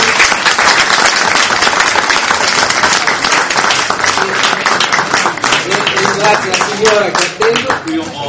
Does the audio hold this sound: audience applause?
yes